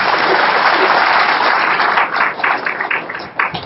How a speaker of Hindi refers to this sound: Very good, अपने लिए तालियां बजाओ।